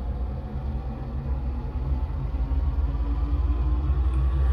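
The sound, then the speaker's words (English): A bus engine rumbles steadily and deep, a continuous low drone of a heavy vehicle on the move that swells a little louder toward the end, with no voices. “Bill the bus driver can keep driving.”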